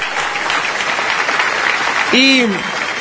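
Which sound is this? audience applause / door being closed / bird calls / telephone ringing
audience applause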